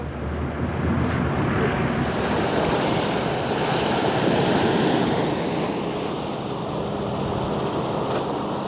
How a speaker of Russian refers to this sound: Сейчас мы видим, как паром прибывает к пристани русского Свято-Пантелеймонова монастыря.